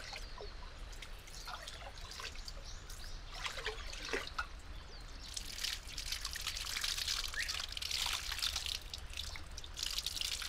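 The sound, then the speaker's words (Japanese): Warm natural hot spring water, piped in from the river during winter, trickles and splashes steadily over hands for about ten seconds, a soft, uneven pouring with bright spattering bursts that grow fuller toward the end, with no talking. “冬の間は川の方から温泉水を引っ張ってきているんです。”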